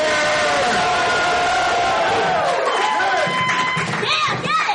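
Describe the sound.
A crowd at a poetry and comedy show cheers and makes noise as a comedian is introduced, a steady, loud roar of overlapping voices, with shouts, whoops and high sliding whistles breaking through toward the end.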